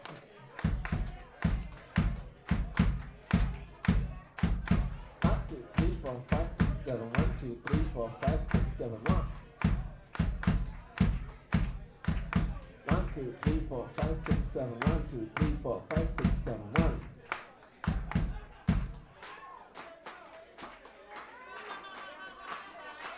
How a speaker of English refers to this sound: Okay. It goes like this. Okay, everybody clap with me, please.